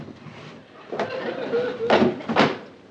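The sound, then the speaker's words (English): A metal drawer slides open with a grinding scrape, punctuated by a few sharp clunks and rattles as it moves, moderately loud. “open your metal drawer.”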